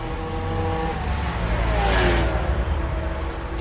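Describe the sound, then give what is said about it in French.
A young man rides a motorcycle at full speed, its engine revving hard and loud, the whine climbing in pitch toward the middle before settling into a steady roar. No voices. “À ses heures perdues, terme on ne peut plus adapter à son quotidien, le jeune homme roule à toute berzingue en moto, et sans assurance, évidemment.”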